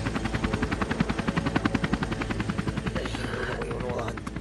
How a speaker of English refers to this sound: When the helicopter located us, it hovered about 60, 80 feet above us, but this is rough, rugged, trees and bushes everywhere, nowhere to land.